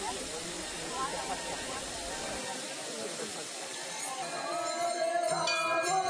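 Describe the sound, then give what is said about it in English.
Water sprays and splashes from a fountain, driven by a submerged, silent pump, at a temple by Sri Govinda Kund, around Giriraj, in a steady, hissing rush that fills the whole clip at an even loudness, with faint ringing tones rising in over the last couple of seconds. “The only sound that can be heard is the water spraying.”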